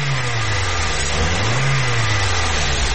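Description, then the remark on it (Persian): A car engine hums steadily at an electric traffic light, then rises in pitch as the vehicle accelerates and pulls away when the light turns green, with a constant wash of road and traffic noise throughout. “حرکت کو وانه سبز شد بخیر.”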